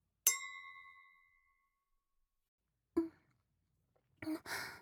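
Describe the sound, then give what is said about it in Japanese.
Glasses clink together once in a toast, a bright ring that fades over about a second, followed later by a soft sip and a couple of breathy sighs. “わかりました、一杯だけですからね。乾杯。”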